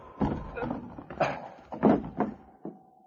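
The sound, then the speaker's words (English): Someone clambers in through a window with a cut screen into a store: a series of irregular bumps, knocks and scrapes, about half a dozen, with rustling in between and no voices. “I'll get through this window.”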